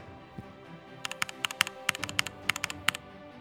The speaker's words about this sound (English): I don't know if I'm that much of a keyboard snob, but I got this mechanical keyboard a while back, and I don't know, it certainly feels better to type on. And I feel like I type better, but I'm not really actually sure about that.